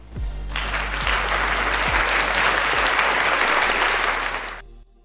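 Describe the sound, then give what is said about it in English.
An applause sound effect: steady applause from a crowd, a dense wash of clapping that holds at a fairly even level for several seconds before fading out quickly at the end, applauding the listeners. “So I simply just want to say thank you and applaud you for taking the time out to listen.”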